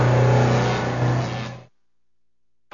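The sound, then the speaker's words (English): A new car's engine revs loudly for about a second and a half as it arrives, its strong low hum surging once, then cuts off abruptly into silence. “And today, you're showing up in your new car and telling me you're buying a house?”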